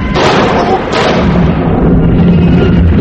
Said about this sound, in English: He's going to the same door as them. He's going to shoot up at them.